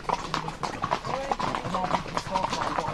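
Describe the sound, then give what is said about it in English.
Horse hooves clip-clop on a paved road leading to Saint-Victor in a steady, repeated rhythm as the horse leads a procession, with people's voices talking faintly underneath. “Donc là, c'est directement sur le cheval”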